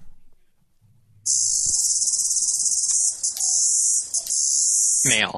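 A single male cicada on a drain pipe in Philadelphia calls loudly and steadily, a harsh continuous high-pitched buzz that starts abruptly after a quiet moment and holds for about four seconds with slight pulsing.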